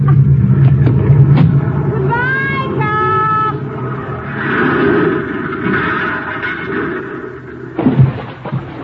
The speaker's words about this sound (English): I place the car in first gear. And then I pull the hand throttle out a little, turn the wheel, and get out!